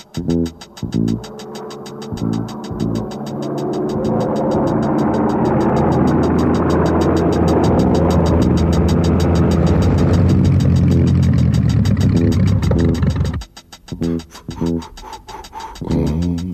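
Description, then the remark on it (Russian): The engine of a much-holed and patched propeller plane sputters, swells into a steady, loud droning roar, then abruptly cuts out again, followed by a few rough, coughing attempts to catch again. “Мотор снова заглох. Самолет мой столько раз пробит и залатан, что я удивляюсь, как это он вообще летает.”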